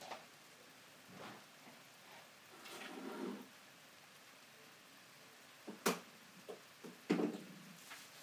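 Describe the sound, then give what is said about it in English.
Quiet, steady rain hisses at night, broken by a few sharper drips or taps near the end. No thunder or voices. “And there's nothing thundery about this rain. It's just rain.”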